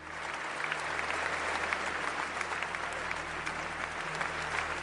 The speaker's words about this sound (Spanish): Aplausos en la ceremonia de reapertura, muy emotivos para los más de 500 bomberos que ayudaron a extinguir las llamas cuando la lumbre amenazaba con hacer caer el templo, todo el templo.